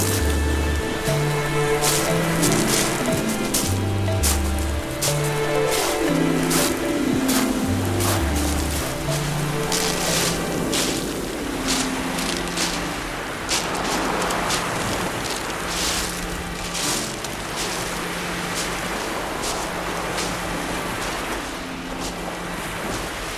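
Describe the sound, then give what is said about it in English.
Waves wash steadily against Brighton seafront with a rushing, gusty wind, a continuous roar with brief surges, and a faint low hum running underneath. No one speaks. “We wandered down to Brighton seafront to hear what was going on.”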